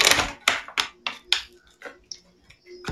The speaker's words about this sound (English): So we're going with this, and I'm going to start shuffling these cards.